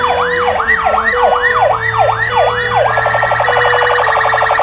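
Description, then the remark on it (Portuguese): Ambulance sirens in the centre of Maringá, Brazil, wail loudly, a rising-falling whoop repeating rapidly several times before switching to a fast, continuous warbling yelp, with a low rumble of traffic underneath. “Em poucos minutos, o som das sirenes das ambulâncias é ouvido no centro de Maringá.”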